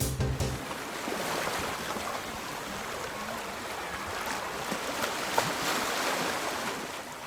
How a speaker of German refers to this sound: Oh, herrlich. Klingt nach Sommer, nach Urlaub, nach Meer.